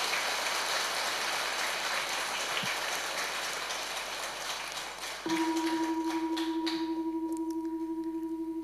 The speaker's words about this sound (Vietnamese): Quý vị hãy dành một tràng vỗ tay thật lớn để tán dương mình.